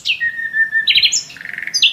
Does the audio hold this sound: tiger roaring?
no